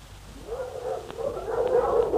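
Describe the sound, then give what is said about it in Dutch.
A pack of small but strong Yakut sled dogs, used as draught animals in a village, yelps and whines in a continuous, overlapping chorus that grows steadily louder, with a few sharp yips cutting through near the end. No one speaks. “En hun honden zijn niet groot, maar sterk. Prachtige trekdieren.”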